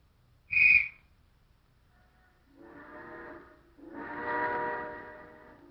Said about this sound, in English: Places. Okay. Signal the train.